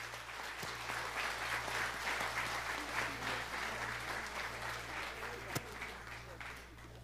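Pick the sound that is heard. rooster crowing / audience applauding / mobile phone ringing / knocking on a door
audience applauding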